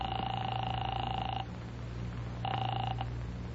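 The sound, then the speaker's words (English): A telephone ringing tone heard down the line while calling the second of three George Brewster numbers found in a phone book: a steady electronic ring, a pause, then a shorter ring starting, over a low constant hum of the connection. “The first number didn't answer. I tried the second.”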